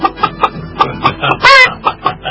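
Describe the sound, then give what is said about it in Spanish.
A person imitates a clucking chicken, a quick series of short, nasal clucks rising to a louder squawk near the middle, fairly loud with no other talk. “Está haciendo la gallina, el sonido es característico, no te me salía mejor.”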